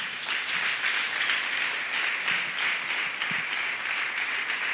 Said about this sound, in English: I also want to appreciate so, so much my church, the Church Kampala. May we give up a round of applause to the Lord for our church.